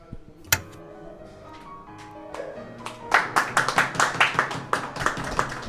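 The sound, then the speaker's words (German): After a few quiet seconds with one sharp knock and a low hum, an audience breaks into applause at the end of a reading of a text: steady, fairly loud clapping from many hands that keeps going to the end. “Sie schneiden dann den Applaus direkt ans Ende vom Text.”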